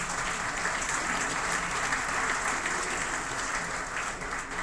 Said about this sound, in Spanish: Aquí es donde aplauden, dice.